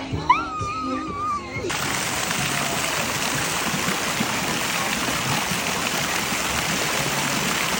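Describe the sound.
Steady, loud rush of splashing, flowing water at a water park, like fountains and spray, with a brief voice heard at the very beginning before the water takes over.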